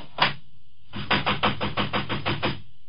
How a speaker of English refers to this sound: Wait, let me close the dining room door here.